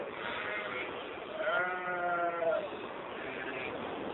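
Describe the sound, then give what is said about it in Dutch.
Sheep and young lambs bleat, one long, wavering, quavering bleat standing out clearly over a steady outdoor background, with fainter calls from the flock before and after. “Het begin van alle leven zie je hier, zo met die schapen weer, dat het een nieuw jaar zich weer inzet, hè?”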